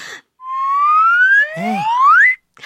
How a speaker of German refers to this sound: Das ist eine Karma-Pfeife. Kann man die essen? Nein, du Witzbold. Man kann darauf pfeifen. Die Karma-Pfeife hat einen wunderschönen Ton.